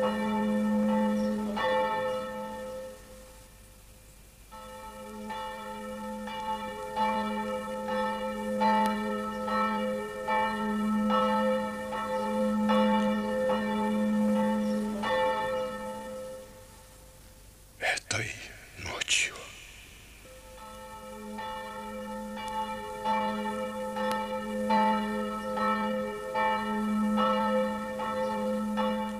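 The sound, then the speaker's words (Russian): A church bell tolls in a slow, steady rhythm, each stroke leaving long, shimmering overtones that hang in the air, with a brief burst of noise cutting through partway. “В этот момент ударил церковный колокол.”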